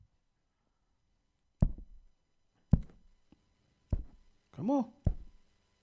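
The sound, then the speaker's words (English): Four loud thumping knocks on hard equipment that is not playing, made by the speaker, spaced roughly a second apart, each with a short hollow decay; a single short word is spoken just before the last knock. “You heard the thing knocking? That's me.”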